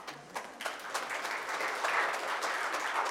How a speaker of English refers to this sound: So applause. You all need applause.